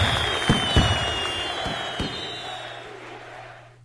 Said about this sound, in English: And the program crashed, but it's still playing the exit scene, so we'll just listen to this. So you get a crowd and some fireworks.